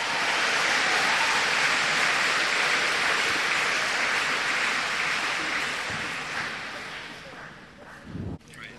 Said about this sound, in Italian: Alleluia. Alleluia. Diamo un applauso al Signore.